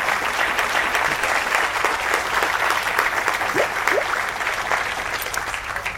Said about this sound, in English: Everyone, can I get a round of applause for our host